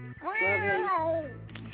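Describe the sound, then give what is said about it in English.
A single long, drawn-out cat meow, loud, its pitch rising then sliding down over about a second, with a faint low hum underneath and no talking. “You didn't hear that too often. You didn't hear that.”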